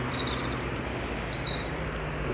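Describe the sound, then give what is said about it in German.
A European robin sings a short run of high, thin warbling notes, some quick and trilled, others drawn out and sliding, over a steady low background hum. “Aber es ist ein Rotkehlchen.”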